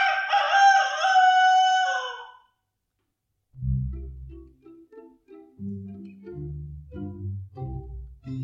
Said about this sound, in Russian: За окошком снова прокричал петух.